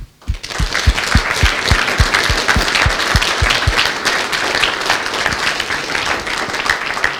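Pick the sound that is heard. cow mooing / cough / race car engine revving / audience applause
audience applause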